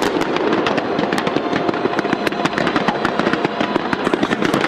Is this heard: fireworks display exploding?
yes